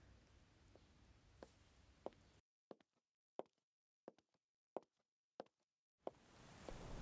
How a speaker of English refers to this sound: Oh, fuck, shit. And now it's raining. Perfect. Such a nice 4th of July.